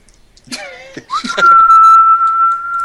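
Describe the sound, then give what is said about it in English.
A person whistles a single long, steady, piercing note that holds unwavering for over a second, eerie and ominous, preceded by a few brief vocal noises and a short rising slide. “The whistle of death.”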